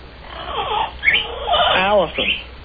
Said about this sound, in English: All right, what is the, who's the parrot that's doing the screaming right now?